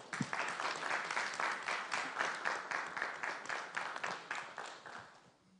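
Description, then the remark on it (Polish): A room full of people applauds steadily at a session of the Town Council in Mordy on 6 May 2024, after the council's vice-chair is elected. Many hands clap in a dense, even patter that holds for several seconds before tapering off toward the end. “Wielkie brawa, dziękuję.”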